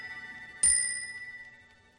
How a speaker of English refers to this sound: In Scrooge's bedroom, the bells on the alarm clock chime at 2:00.